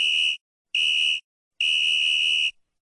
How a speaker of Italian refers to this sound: Corse via, soffiando nel fischietto.